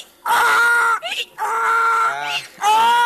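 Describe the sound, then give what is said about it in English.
A person imitates a donkey's bray with their voice: three loud, strained hee-haw calls with strong harmonics, alternating high and low gasping pitches, each lasting about half a second to a second. “This is an imitation of a donkey.”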